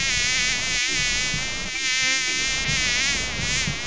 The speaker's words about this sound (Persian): مگس جان، زیادتر در کجا خود راحت احساس می کنی؟